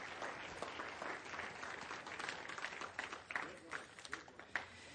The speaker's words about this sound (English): Come on, everybody stand up this morning. Give the Lord a good clap offering this morning, would you?